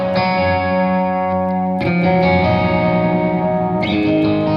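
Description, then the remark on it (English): A crunchy, mildly distorted electric guitar, on a clean setting through a pedal rig that is crunchy on its own, plays sustained chords, struck anew about every two seconds with bright, ringing overtones and a touch of echo, with no voices. “But that's just a regular, that's just really a clean, you know, the rig's crunchy enough as it is, but it's sort of it's a really good just level.”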